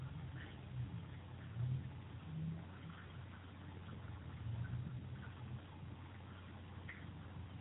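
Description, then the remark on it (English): A steady low rumble of road traffic, with engine hum swelling and easing now and then, quiet and continuous throughout without any voices. “So traffic has its place as a beautiful prompt.”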